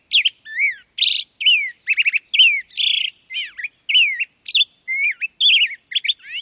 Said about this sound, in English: They record courtship displays, if the bird's carrying food or nesting material, or singing to stake out a breeding territory, like this black-headed grosbeak.